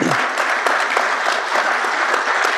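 A round of applause from a group, steady and fairly loud clapping that fills the whole moment with dense, overlapping claps and no talking over it.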